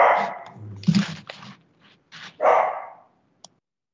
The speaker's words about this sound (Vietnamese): xin lỗi quý vị, con chó, để tôi ra tôi chỉnh nó tí xíu.